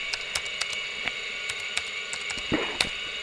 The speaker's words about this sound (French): Donc, le premier poste comprend un émetteur et un récepteur. On tape des messages au clavier. Donc là, d'ailleurs, je vais taper un message.